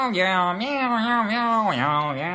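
A human voice imitates cats meowing, drawing out a steady run of sing-song meows with rising and falling pitch. It is fairly loud, with no other sounds around it.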